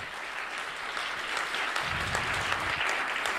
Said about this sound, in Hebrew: מגיע לו כפיים, רבותיי, מגיע לו כפיים, מגיע לו.